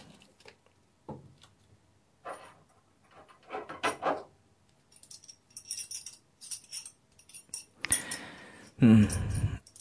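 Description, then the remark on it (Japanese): A collar's metal buckle is unfastened: scattered soft clinks and jingles, then a louder rustling, rattling burst of handling near the end, with no one speaking. “首輪もかな。ちょっと待って。”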